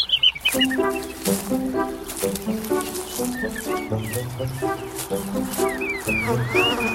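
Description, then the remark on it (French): Birds sing and chirp outdoors at the source of a river in quick, curling calls, fairly loud, layered over a steady, droning lower hum that continues throughout. “Oui, les oiseaux, on est chez vous. Là, ils sont heureux.”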